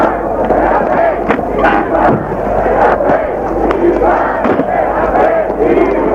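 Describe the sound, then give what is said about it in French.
A dense crowd of factory workers at a protest demonstration shouts and roars continuously, many voices blending into a loud, chaotic din with sharp bursts and cracks punctuating the steady uproar throughout. “Encore une foutue manifestation. Les ouvriers des usines.”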